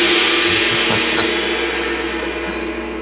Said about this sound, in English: And because I'm in a good mood, let's give them a gong.